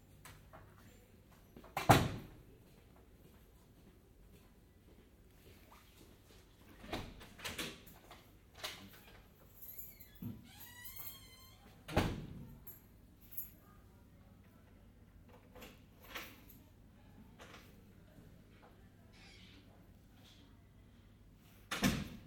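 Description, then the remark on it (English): A series of loud, reverberant door closings and thuds at irregular intervals, with a clear echo, some faint rattling and a low background hum between impacts. “Finishing with some nice acoustic door closing.”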